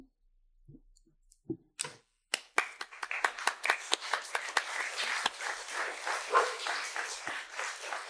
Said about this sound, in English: Well, I guess you clap for him and he gets to clap for me. I'm not supposed to clap for myself. I'm clapping for you, David. Right, I'm clapping for you.